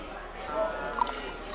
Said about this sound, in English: He's pouring water as we speak, which I think is amazing.